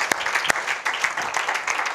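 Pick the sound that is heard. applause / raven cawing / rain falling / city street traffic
applause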